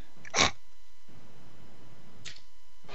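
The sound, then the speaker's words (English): A single sharp, explosive sneeze bursts out, followed by a low murmur of background noise and a couple of quieter breathy sounds. “God bless you”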